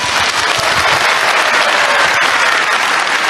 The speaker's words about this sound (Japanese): 会場の皆様、今一度大きな拍手をお願いいたします。